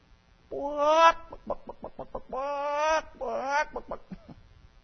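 Loud, close chicken clucking: long drawn-out squawks broken up by quick runs of short clucks, in three bursts with no one talking.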